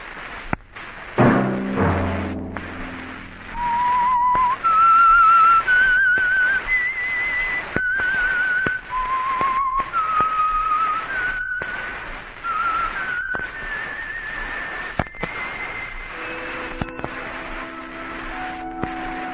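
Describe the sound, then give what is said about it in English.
A lone whistled theme melody of a radio program rises and falls in sustained, wavering notes over a soft orchestral backing, clear and prominent, with no one speaking. “Let that whistle be your signal for the Signal Oil program, The Whistler, each Sunday night at this same time.”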